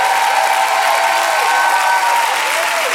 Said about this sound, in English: Keep on clapping. Bring the worship team out here. The glory of the Lord is in this place. Just keep on clapping for a moment.